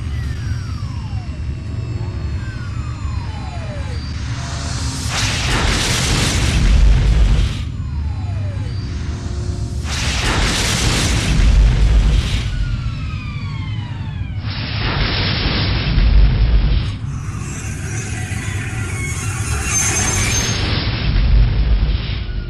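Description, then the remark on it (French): A frigate-model spacecraft lands hard under manual control with no autopilot: deep engine rumble and descending whooshes, broken by two loud crashing impacts a few seconds apart as it bounces several times, then a sustained hissing roar as it settles. “Notez qu'il y a eu plusieurs rebonds, mais ce n'est pas un atterrissage à faire tomber les stérilés.”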